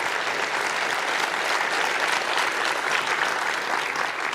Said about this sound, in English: And again, please give them a big hand of applause for supporting this competition.